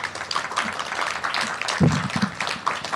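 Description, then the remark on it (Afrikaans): A crowd applauds an author at a book signing event, a dense crackle of many hands clapping at moderate loudness for the full three seconds, with a faint voice briefly mixed in near the middle. “gee baie lekker aan een klap”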